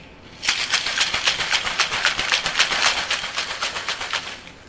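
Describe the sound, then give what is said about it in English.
A cocktail shaker holding a tiki drink of orange juice and falernum is shaken hard and fast, ice rattling in a steady, rapid rhythm of bright, crisp bursts for several seconds, with no voices. “You're going to shake.”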